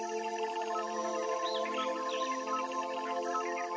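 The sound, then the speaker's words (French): Soft birdsong, a few short warbling chirps rising and falling, heard faintly over a steady, sustained tonal drone that continues throughout. No one speaks. “Certains chants d'oiseaux vous étonnent par leur incroyable mélopée.”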